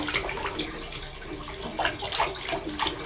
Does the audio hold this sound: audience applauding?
no